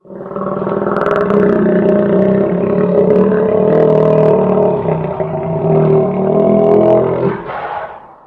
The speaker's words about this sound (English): You're going to hear the alligator speak. Where it hisses and gurgles and, yes, makes, like, and makes those nasty giant muffler noises.